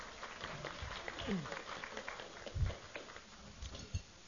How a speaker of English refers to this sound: Welcome to everyone to this luncheon. Looks like a great crowd again. We had a great crowd in, give yourselves a hand.